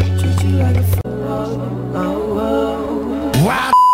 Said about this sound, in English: We actually play you a clip on the show that we said, and then you try to figure out what's behind the beep.